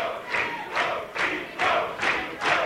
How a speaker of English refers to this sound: You can hear the crowd. They want more.